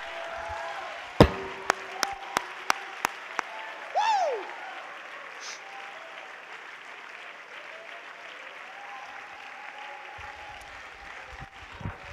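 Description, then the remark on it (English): An audience claps their hands to the Lord, with a few sharp, evenly spaced claps standing out early on, then a brief rising-and-falling shout of praise. A steady wash of crowd noise and scattered clapping carries on to the end. “If you believe it and you want it to happen, would you clap your hands to the Lord and give him a shout of praise and say, God, I want to make it.”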